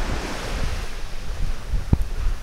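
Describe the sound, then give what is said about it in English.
Steady outdoor rush of surf on a white sand beach on Assateague, with low rumbling wash and gusts of wind buffeting the microphone; one brief thump stands out near the end. No voices. “I'm back out on the white sand beach, and off in the distance to the north, I see the towering hotels of Ocean City.”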